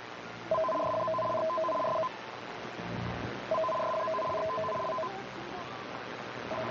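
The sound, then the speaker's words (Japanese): Japanese emergency warning broadcast designated-signal tones, aired as a test by radio station Bunka Hoso: rapid, warbling two-pitch electronic bursts, each lasting about a second and a half, repeating with short gaps over a steady hiss of broadcast noise. “ただいまから緊急警報放送の指定信号を放送します。”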